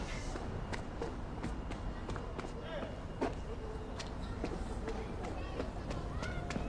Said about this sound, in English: She looks back at the block as she descends the outside stairs.